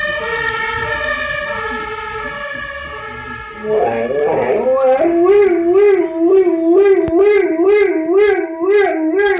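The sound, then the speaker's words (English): A dog howls in long, steady tones, then its voice rises and falls in a rapid, wavering pattern imitating a passing siren's wail, loud with no talking. “This is a dog. Siren goes by, a dog imitates it.”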